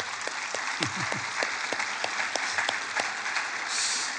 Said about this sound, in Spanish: Un aplauso a mi esposa que está por ahí.